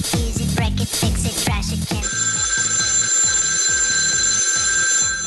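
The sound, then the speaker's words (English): A telephone rings loudly and insistently, its electronic trill repeating in a steady rhythm after a brief burst of other busy sound at the start. “Oh, we have another phone call here.”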